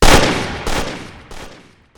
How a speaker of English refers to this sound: The gunshot echoed around the square, its deadly tone ringing away through the streets.